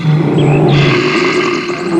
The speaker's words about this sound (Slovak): Keby ste rozumeli reči medveďov, počuli by ste?